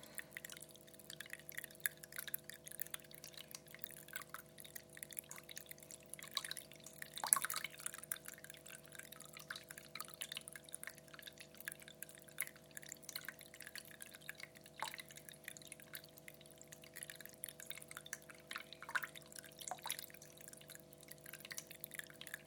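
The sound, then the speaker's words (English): Water from a garden water feature trickles and splashes steadily as it cascades down stacked pots, a continuous, fairly quiet babble broken by a few sharper drips and splashes standing out from the flow. “It's nice because it cascades down all the pots. It sort of splashes, so you do get that lovely splashy motion.”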